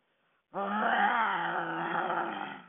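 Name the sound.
bear growling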